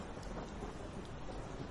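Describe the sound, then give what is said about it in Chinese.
A low, continuous rumble of thunder rolls under a steady hiss of rain, fairly quiet, with no voices present. “你别误会，我可不是因为打雷害怕才来找你的。”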